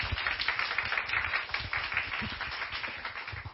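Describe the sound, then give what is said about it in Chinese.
A church audience applauds to welcome a speaker, with steady, dense hand clapping that holds at an even level throughout, a continuous wash of many overlapping claps with no voices breaking through. “把时间交给他，我们这里拍手欢迎他。”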